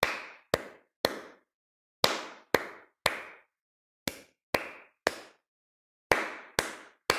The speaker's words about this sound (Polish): Ja wyklaszczę krótki rytm, ty posłuchaj i zaraz spróbujemy wyklaskać go razem.